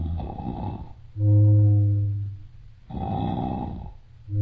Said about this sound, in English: Hey, Captain Scuttlebutt is snoring like a foghorn.